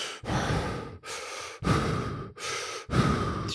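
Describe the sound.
A person imitates heavy breathing into a headset, with four loud breaths in and out at a steady rhythm, each a harsh rush of air separated by short pauses. No one speaks.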